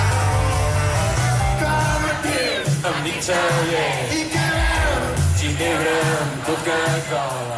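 A loud live rock band plays in the early hours at a concert opening the Canet Rock festival in Canet de Mar, steadily with a throbbing bass line while a large crowd shouts and cheers over the music, the din staying dense and unbroken throughout.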